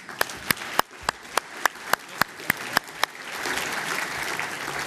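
Sharp single claps sound in a steady, rhythmic beat for about three seconds, then a crowd joins in and the applause swells into a dense, continuous wash that grows louder.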